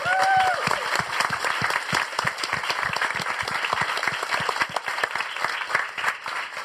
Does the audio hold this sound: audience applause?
yes